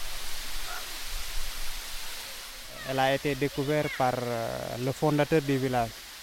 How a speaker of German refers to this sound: Wir sind in einer von hohen Felsen umschlossenen Bucht. Der Wasserfall ist die Sehenswürdigkeit von Lindefellow